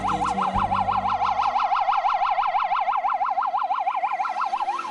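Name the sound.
ambulance siren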